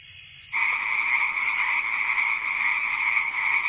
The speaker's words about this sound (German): Grillen und Frösche.